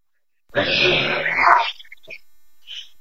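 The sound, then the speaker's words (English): A loud, harsh mechanical buzzing from a robotic Trackerbot bee swells up for just over a second and cuts off, followed by a few faint electronic chirps and blips. “There's a Trackerbot bee.”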